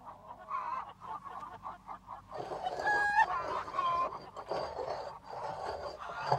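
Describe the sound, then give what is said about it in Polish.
Farmyard fowl calling: chickens clucking alongside honking goose-like cries, a busy overlapping chorus that grows louder and denser halfway through, with no one speaking. “Ej ty, ptaszku! Zostaw to żarno, a weź chleb i ser i idź się posilić.”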